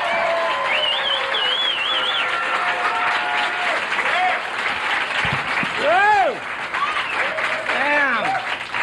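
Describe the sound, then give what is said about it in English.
A comedy show crowd applauds loudly and steadily as a comedian from Santa Cruz, California, is introduced, a dense, continuous wash of clapping with cheers and a few rising-and-falling whistles cutting through near the end. “Let's hear it for”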